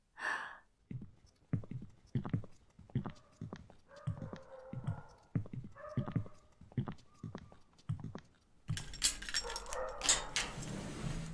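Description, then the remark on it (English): A dog giving birth to puppies whimpers in a steady series of short, strained whines and breaths, some rising into thin tonal cries, before a burst of louder rustling noise takes over near the end. “Oh, looks like we got here just in time. Do you remember how many puppies we saw on the ultrasound?”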